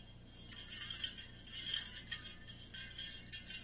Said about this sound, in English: No, that's not scrubbing dishes in the studio. That's my sustainable water bottle